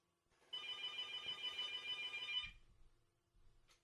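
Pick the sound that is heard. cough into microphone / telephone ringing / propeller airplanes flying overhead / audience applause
telephone ringing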